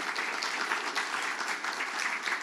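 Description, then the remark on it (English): A crowd at a school fundraiser claps steadily for those who donated, a dense wash of many hands sustained without a break for the whole stretch, with no voices standing out. “Any of you that donated to us, a round of applause if you would.”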